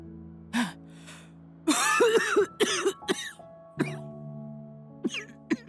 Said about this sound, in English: She weakly coughed, then with her hands asked for a glass of water set by her bedside.